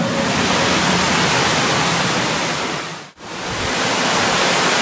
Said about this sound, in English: Wow, there's a lot of damn water in here.